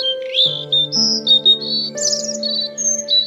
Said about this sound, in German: Huch, das ist doch, ja genau, die Rotkehlchenmama. Du verstehst sie. Wahnsinn. Sie sagt ihrem Küken, dass es sich keine Sorgen zu machen braucht.